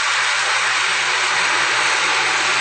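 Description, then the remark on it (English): Loud, steady sizzling hiss of lentils and water poured into a preheated, very hot pan, continuous with no voices, a dense crackling wash of noise throughout. “Ooh, boy, that really is sizzling.”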